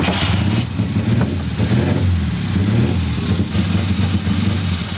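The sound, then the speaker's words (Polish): A motorcycle engine runs, idling with a steady throaty rumble and repeatedly revving up and settling back down throughout, loud and continuous with no voices. “To wszystko motory albo części motorowe w koszykach, w skrzynkach, co chcesz tam, Matko Wszechświętsza.”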